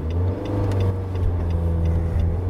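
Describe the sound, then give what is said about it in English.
A WRX car goes by with its engine revving loudly, a steady low droning growl that holds throughout the couple of seconds, with no one speaking. “WRX going by us.”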